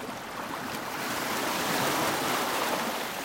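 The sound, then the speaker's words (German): Ocean waves break near the shore of a beach in a continuous, steady wash of surf that swells slightly louder midway, a broad rushing roar with no voices. “Sinniert habe ich über die Wellen, vielleicht sogar meditiert.”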